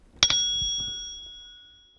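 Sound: page-turn bell ring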